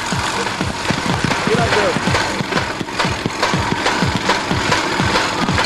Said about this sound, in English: They've got the engine going just in time.